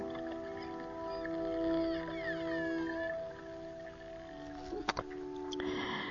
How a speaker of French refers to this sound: Alors, la petite musique que vous entendez derrière, c'est la musique des dauphins. Voilà, j'ai choisi cette petite musique des dauphins pour nous accompagner.